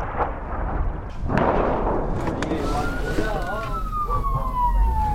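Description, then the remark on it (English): An ambulance siren wails over a steady engine and road rumble, heard from a vehicle following the ambulance through the town of Nabatea to the scene of an airstrike, starting partway through with a warbling rise and fall before sliding into a long, slowly falling tone. “We're now in our vehicle following an ambulance through the town of Nabatea to the scene of another airstrike.”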